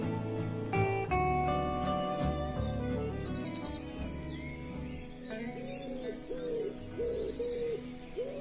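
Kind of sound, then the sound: bird, birds calling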